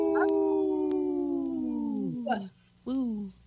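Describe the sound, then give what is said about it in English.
People imitate wolf howls on the radio show Native Roots Radio Presents I'm Awake, in a segment supported by Howling for Wolves: a long, sustained howl that slowly slides downward, a breathy gasp, then a shorter rising-and-falling howl. The voices are fairly loud. “This portion of the show is supported by Howling for Wolves, protecting wolves for future generations. Howl! Howl! Woo!”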